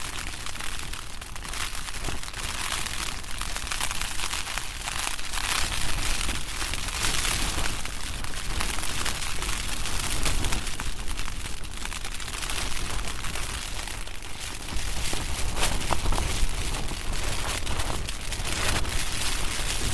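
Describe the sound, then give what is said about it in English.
Wind from a storm roars steadily against a small REI tent, blowing it over sideways, for the whole stretch, a dense, hissing rush broken by crinkly fabric flutters and gusty surges, with no voices. “And it was just kind of blowing over sideways, even though I moved it to not be facing the wind.”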